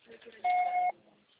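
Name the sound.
answering machine beep tone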